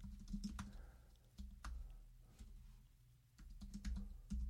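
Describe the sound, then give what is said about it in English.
Quick, uneven bursts of clicking keys on a computer keyboard, fairly quiet, with short pauses between flurries of taps and no voices, as a title for a lower-third overlay is typed. “so I'm typing in Tech Trollmaker”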